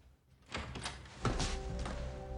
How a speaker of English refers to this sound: She opens the front door to Bonnie.